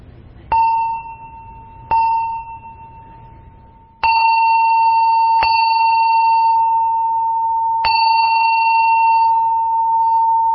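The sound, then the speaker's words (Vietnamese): A Buddhist chanting bell is struck about five times at uneven intervals, each clear metallic ding blooming into a long, steady ringing tone that overlaps the next strike. No voices. “Thí dụ mình thỉnh chuông tụng kinh đó, là mình thỉnh 3 tiếng, 2 nhặt 1 rời.”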